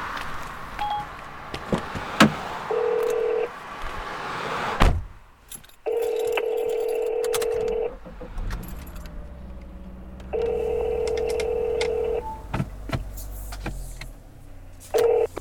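A car's hands-free phone places an outgoing call, with a short beep followed by steady electronic ringback tones repeating every few seconds over a low cabin hum.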